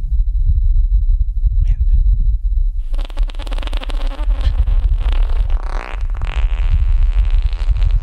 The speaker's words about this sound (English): It is what you would think it is. It just sounds a little windy, but like how often do you get to say that you heard what it sounds like on Mars?